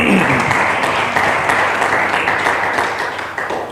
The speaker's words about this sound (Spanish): Si usted me está aplaudiendo a mí, tiene que ser feo, pero para el Rey de Rey tiene que ser lo mejor.